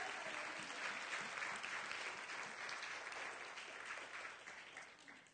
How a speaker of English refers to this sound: Come on, somebody, give the Lord a hand clap in here.